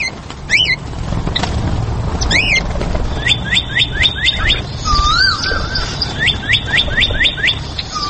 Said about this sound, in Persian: هر طرف آوازها و صداهای پرندگان خوشخوان تنین اندازند.